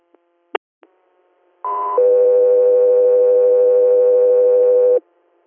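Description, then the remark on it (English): A few sharp clicks, then a two-part radio dispatch alert tone for Guthrie Air on an inter-hospital response: a brief higher pitch stepping down to a long, steady lower tone that holds for about three seconds before cutting off. “Guthrie Air, stand by for tones.”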